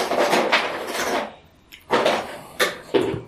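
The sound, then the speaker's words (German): A door is pulled open with a sustained scraping rattle, then a few sharp clunks and knocks as it settles. Fairly loud, with no voices. “Macht dort die Tür auf und verschwindet in dem Gang.”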